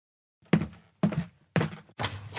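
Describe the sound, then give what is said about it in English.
Four solid knocks on a door, evenly spaced about half a second apart, each a hollow thump with a short ring, and no voices. “Is someone knocking at the door?”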